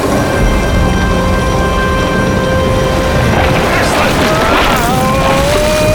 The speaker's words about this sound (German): Der Sturm! Gott, steh uns bei!